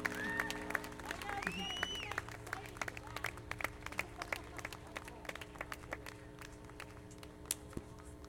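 An audience breaks into steady applause: many overlapping claps, dense at first with a few whistles and cheers, then thinning to scattered sharp claps toward the end.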